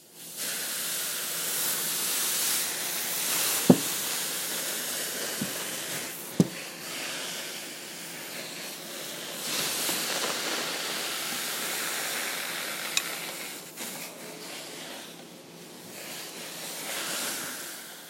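A hot clothes iron sizzles as it touches water: steady hissing and sizzling, broad and airy throughout, with a few sharp clicks and taps near the start.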